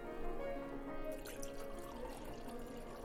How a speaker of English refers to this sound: Here you are, ma'am. Our house red. Thank you. Let me pour you a glass.